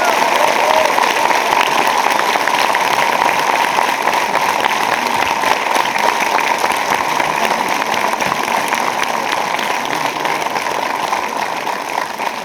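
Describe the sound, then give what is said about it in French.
Loud, sustained applause from show spectators for a sports agent guest, a dense crackle of many hands clapping at once, holding steady for the whole stretch and easing only slightly toward the end, with no voices heard. “si vous voulez bien l'applaudir.”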